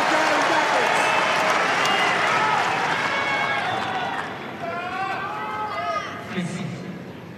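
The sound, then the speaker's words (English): A large tennis crowd at Roland Garros roars and cheers continuously, willing a player on at break point, with individual voices shouting encouragement rising out of the din before the noise eases slightly toward the end. “The crowd are willing her on.”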